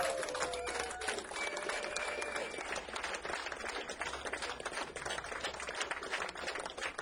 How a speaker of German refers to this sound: …, kommen aus Zagreb, Kroatien. Und jetzt möchte ich als allererstes mal wirklich für euch einen Applaus, weil die sind jetzt von Zagreb hierher gefahren, extra für dieses Konzert, für euch, für mich, für uns.